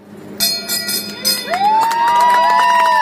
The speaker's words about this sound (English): The brothers ringing the bell on the dock in Ketchikan last night.